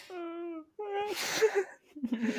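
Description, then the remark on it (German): A voice fakes a whining, wavering cry in a few drawn-out bursts, fairly loud, imitating exaggerated whimpering sobs with breathy gasps between. “Jetzt weinen wir noch eine Runde und dann hören wir einfach irgendwann mittendrin auf.”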